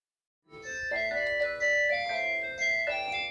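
A telephone rings in the office of the Jewish Community of Schwerin, Germany, with a melodic electronic tune, bright sustained notes stepping up and down in a steady pattern, fairly loud and with no voices.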